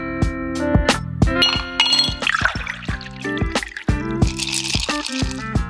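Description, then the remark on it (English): Bright glass clinks ring out one after another, clear, while a drink splashes and fizzes as it's poured in between. No voices, just the chiming glasses and liquid. “So lower the lights, grab your favorite beverage”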